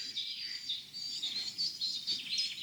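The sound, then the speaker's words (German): A woodpecker calls amid a steady wash of high, thin birdsong, the chirps fairly faint, repeating throughout with no voices present. “Was? Spechti. Ja, schön Spechti.”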